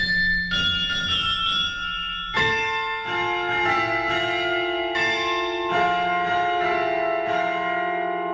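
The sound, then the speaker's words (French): A melody played on large cast bronze Packard bells from Haute-Savoie, France: strikes arriving every half second or so with long ringing overtones that overlap and sustain, loud and resonant, with no voices. “je vous propose, Yves, de terminer ce reportage par ce morceau musical joué avec les cloches Packard”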